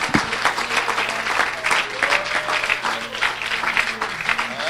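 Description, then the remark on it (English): An audience at an evening church service gives the Lord a hand clap of praise, a dense, steady wash of applause lasting several seconds, with faint voices calling out beneath the clapping. “Would you give the Lord a great hand clap of praise?”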